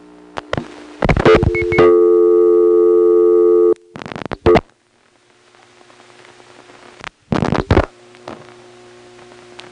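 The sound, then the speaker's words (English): A telephone ringback tone from a 434 ESS switch ringing number sounds once as a steady two-second electronic buzz on a phone line, framed by sharp switching clicks and bursts of line noise, with faint static hiss between. “Now a 434 ESS ringing number.”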